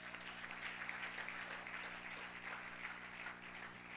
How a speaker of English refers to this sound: Oh, clap your hands again, would you?